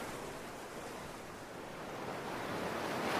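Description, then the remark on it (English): Steady ocean surf washes continuously onto a beach, a broad hiss of breaking waves that swells slightly louder toward the end, with no voices present. “Let's check out the beach.”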